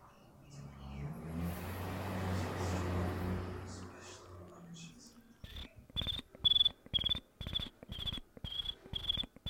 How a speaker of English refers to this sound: Oh, what's with my crickets today? They're not working. Yeah, I don't know what's going on. My cricketer is broken.